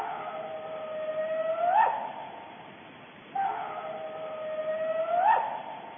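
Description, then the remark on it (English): A recording of two long, coyote-like howls of unknown origin, whose spectral pattern does not match that of a coyote, one after the other, each holding a steady tone before sweeping sharply upward at the end. The calls stand alone against faint background hiss, with no talking. “So an untrained ear could say, oh, well, that's just a coyote.”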